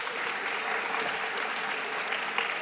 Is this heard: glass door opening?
no